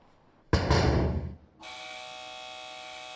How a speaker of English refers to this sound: Eric is led through a metal mesh door